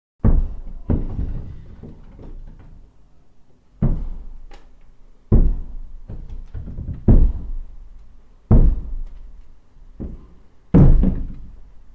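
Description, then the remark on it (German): Slow, heavy footsteps land one at a time at uneven intervals, each a loud thud ringing out with reverberation; no one speaks. “Take three. Schritte.”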